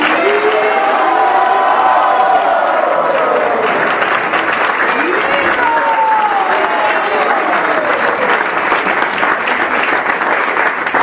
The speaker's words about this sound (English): So before we go, we'd like to give our two guests a big cheer for participating in our program tonight. Please give them a wonderful...